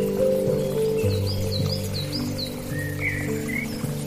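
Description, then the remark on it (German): A quick series of high, repeated bird chirps, followed by a few lower whistled calls, rising over a soft, steady musical drone in a calm outdoor setting. “Vielleicht stehst du mitten im Wald und hörst die Stimmen der Vögel.”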